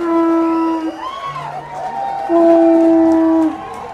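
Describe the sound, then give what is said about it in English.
A conch shell is blown at a wedding to greet the newly married couple: two long, steady, horn-like blasts with a lower wavering tone between them, over a faint murmur of a crowd cheering and applauding. “The couple was greeted with cheers, applause, and the sound of a conch shell.”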